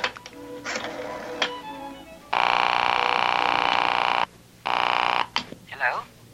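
A telephone being dialed: a run of small clicks and ticks, then two long, steady buzzing ring tones separated by a short gap, with a brief murmur at the end.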